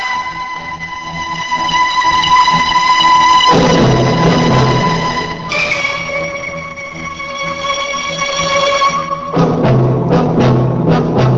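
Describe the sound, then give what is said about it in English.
A train's horn blares in long, sustained chords over a heavy low rumble that swells as the train approaches from the distance; the horn's pitch shifts partway through, then short blasts sound near the end. “I could hear the train in the distance now, but I didn't care.”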